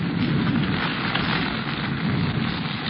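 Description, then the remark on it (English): A heavy, cold jungle downpour in a clearing roars steadily and loudly throughout, a dense, unbroken hiss of pounding rain with no voices or pauses. “Raining. Is that rain? I thought somebody was holding a fire hose over my head.”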